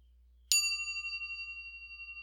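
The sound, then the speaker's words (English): A single meditation bell is struck once, giving a clear metallic chime whose bright overtones shimmer and slowly fade over a faint low hum, still ringing softly at the end. “And I'm going to ring the bell, and when you can no longer hear the sound of the bell, allow your eyes to open.”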